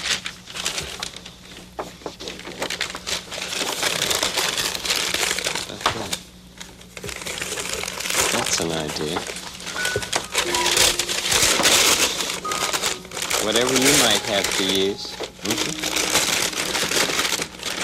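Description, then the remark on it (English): A paper bag is crumpled and torn, a continuous dense crackling and rustling that runs the whole time, with a brief bit of quiet talk partway through. “I think I'll work with this bag.”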